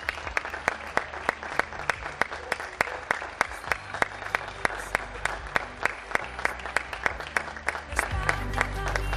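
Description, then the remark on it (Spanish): Neighbours in Madrid clap from balconies across a street, steady rhythmic applause echoing between buildings, with a low rumble and faint voices underneath, building slightly louder toward the end. “Mucha gente a la que aplaudir estos días, y las estamos conociendo a muchos de ellos”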